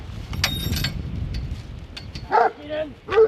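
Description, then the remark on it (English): A few sharp barks from working farm dogs in a paddock near a farmyard ring out near the end, following a stretch of low outdoor rumble and faint high clinking. “are in a paddock near the farmyard with their dogs.”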